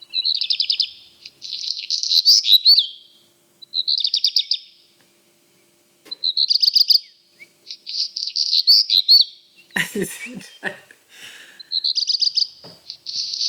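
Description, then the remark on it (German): A black redstart sings short, high, trilled phrases again and again with brief pauses, interrupted partway through by a harsh, crackling, scratchy burst before the bright trills resume. “Ja, das ist der Hausrotschwanz.”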